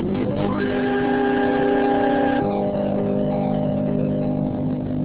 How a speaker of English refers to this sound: Hey, listen, here's your theme music.